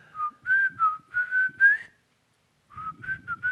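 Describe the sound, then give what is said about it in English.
Someone whistles a short, bouncy jingle melody imitating a drinking-segment tune, two quick phrases of rising and falling notes separated by a brief pause, with faint breathy noise underneath. “you whistle it”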